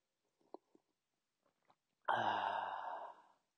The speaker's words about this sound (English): That's just me sipping on my green tea. So don't be alarmed, and hopefully don't be disgusted, because some people apparently get disgusted by the sound of people slurping drinks